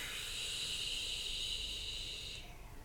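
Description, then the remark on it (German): A long, slow, deep exhale during a relaxation breathing exercise, a steady airy hiss lasting over two seconds that fades out at the end, fairly loud, with no talking over it. “Und wieder aus.”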